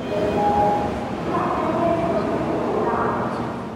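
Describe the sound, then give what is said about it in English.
A steady rumble of a train in China, travelling to Shenzhen, rolling along rails, with faint high-pitched squealing tones drifting in and out and indistinct voices murmuring in the background. “So I hopped on a train and I went to southern China to a city called Shenzhen.”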